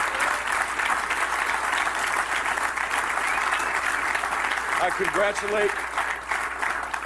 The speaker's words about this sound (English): Biggest hand he's gotten all year.